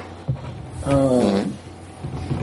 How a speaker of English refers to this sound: Sorry, that was unintentional. I was just trying to yawn into my shoulder, and I didn't have all my shirt.